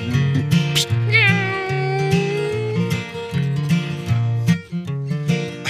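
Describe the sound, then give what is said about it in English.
A band plays an upbeat tune with a steady bass pulse while a fiddle slides through swooping, meow-like notes, imitating a cat's mewing over the music. “We play this in the band sometimes, and the boys are all psh, meow, or the fiddler's going mew, mew, mew.”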